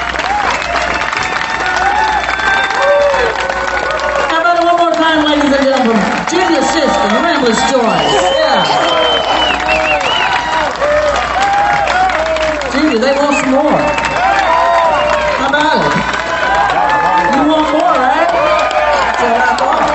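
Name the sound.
crowd cheering and applauding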